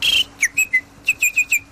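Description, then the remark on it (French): A mouth-blown bird call whistle chirps alone: a long trilling burst, then two quick groups of three to four bright, warbling peeps, fairly loud, imitating birdsong. “Des sifflets, il y en avait beaucoup, hein. Alors les sifflets, c'est à la bouche. Alors t'as l'oiseau.”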